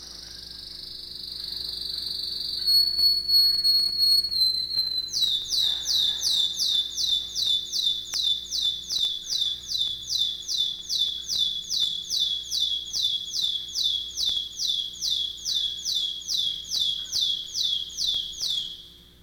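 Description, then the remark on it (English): A songbird, a pure chopper singer, opens with a brief sustained high trill, then delivers a long, unbroken run of 34 consecutive rapid staccato chopped notes, evenly spaced and clear, sung alone without any talking. “is a pure chopper and has a phenomenal continuity of singing 34 consecutive chopped notes.”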